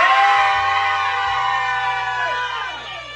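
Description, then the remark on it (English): An audience screams together in one sustained, loud burst, voices blending into a dense roar that holds steady for a few seconds before starting to fade. “One more time. One, two, three. Scream.”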